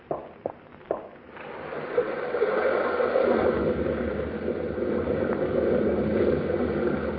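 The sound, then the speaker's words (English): A rock fall about half a mile up a gorge, from the river undercutting the cliffs, on a foggy, dark night: a few sharp knocks and cracks, then a heavy, steady rumbling roar that swells and holds, with no voices. “Big rock fall about 1/2 mile up the gorge there.”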